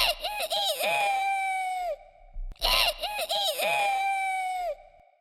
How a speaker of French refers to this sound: Ils arrivèrent devant le portail d'une ferme, un vieux coq y était perché. « C'est toi qui nous transperces les oreilles ? Qu'as-tu donc à crier ainsi ?»